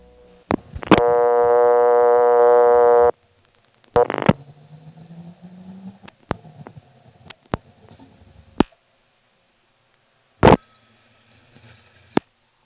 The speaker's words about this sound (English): I dialed 9 and then 2 more digits. Then I hung up, and instead of getting a new dial tone, I got the sound of a ring tripping.